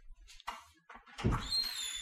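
front door opening

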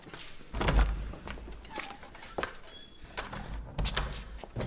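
door being opened

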